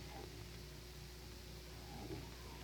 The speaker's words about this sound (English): Do you hear the curious humming sound that seems to come from inside the object? I'll move the microphone nearer. Here. Now, we're not more than 25 feet away. Can you hear it now?